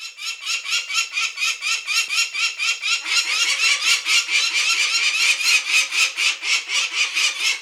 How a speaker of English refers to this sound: Well, they have a variety of calls depending on, the purpose of the call, the time in the nesting season. But probably the call most people hear if they approach a nest site would be sort of a long, screeching, aggressive call.